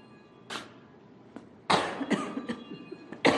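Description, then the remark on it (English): Several harsh coughs, a single one followed after a pause by a rapid cluster of hacking bursts and one final cough, with no talking. “I'm going to give you a minute while I cough to think about that, and I'll be right back.”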